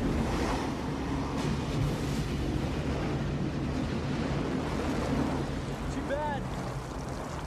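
A heavy, continuous roar of pounding surf fills the scene, loud with no break: big, closed-out waves of a 50-year storm churning and crashing, with a brief high whistling cry near the end.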